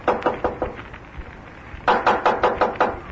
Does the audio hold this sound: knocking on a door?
yes